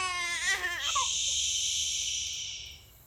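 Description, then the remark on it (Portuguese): A baby lets out a single wavering wail that breaks into a harsh, breathy cry, held for a couple of seconds before trailing off. No talking. “Era muito difícil esconder o bebê Moisés quando ele chorava.”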